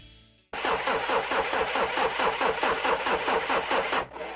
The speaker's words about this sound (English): Oh no, the car won't start again. What should we do? I'll call a wrecker.